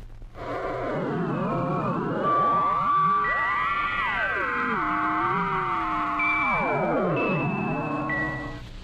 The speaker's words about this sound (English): Image interference from a facsimile transmission.